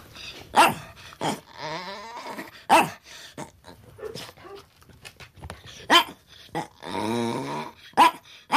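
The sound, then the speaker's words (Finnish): A dog, nicknamed 'WC-ankka' (toilet duck) for its funny bark, lets out several sharp, loud barks at irregular intervals, mixed with drawn-out, warbling whines and yowl-like extra vocal noises between them; no one speaks. “Me sanotaan sitä WC-ankaksi, kun se on semmoinen hyvin hauska se sen haukkuääni, kun se haukkuu. Ja siihen tulee kaikki semmoisia niin kuin lisääniä mukaan.”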